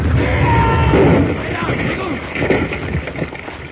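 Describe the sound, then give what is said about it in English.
A rifle fires into a keg of blasting powder at the mouth of Batwing Cave: a loud explosion erupts into a thick, roaring rumble that rocks the mountainside for about a second, then settles into rolling debris and crackle while voices shout over it. “Jingles stepped on a loose board at the mouth of Batwing Cave and set off a rifle, which fired into a keg of blasting powder, and the explosion rocked the mountainside.”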